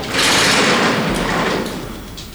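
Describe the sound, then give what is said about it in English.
A door slides open with a steady, fairly loud rushing rumble that lasts about two seconds before tapering off, with no voices. “I heard like a door open a couple times.”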